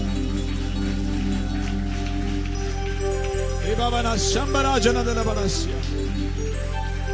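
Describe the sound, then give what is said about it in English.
An audience gives a clap offering unto Jesus, clapping hands in a steady, dense patter that runs through the whole clip, over sustained low organ-like tones, with a voice calling out briefly midway. “Give a clap offering unto Jesus tonight.”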